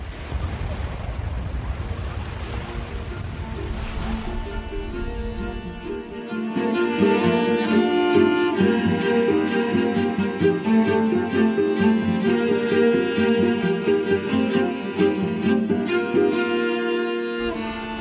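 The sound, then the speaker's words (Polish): Steady rushing of sea waves and wind blowing off the sea for the first few seconds, a broad hissing roar, before layered music with a pulsing beat takes over and fills the rest. “Jeszcze tylko trochę szumu morza i fru. No i wiatr od morza.”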